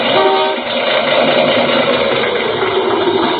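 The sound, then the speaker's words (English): A misfiring car engine runs steadily, a rough, loud idle with a knocking, uneven texture that fills the whole clip. “Well, it's misfiring some.”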